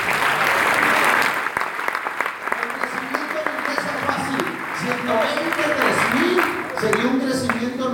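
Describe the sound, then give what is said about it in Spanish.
A church audience bursts into sustained applause to the Lord during a sermon, dense and loud at first, with scattered voices and cheers rising through it as the clapping continues for several seconds. “Pero un aplauso al Señor.”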